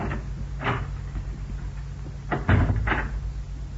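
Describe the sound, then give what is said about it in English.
A door lock is sprung: a metallic click, then a quick pair of rattling clacks with a dull thud, and a final click, all without any voices. “I'll spring the lock on this door.”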